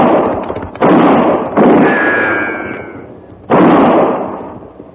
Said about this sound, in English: That's fine shooting, just fine. You missed him. It was too late. He was flying.